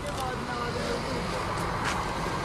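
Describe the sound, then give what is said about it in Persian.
Steady road traffic rumbles continuously outdoors at Najaf airport, a broad wash of engine and tire noise with a couple of brief passing hisses, while indistinct voices murmur faintly in the background. “اینجا فرودگاه نجف.”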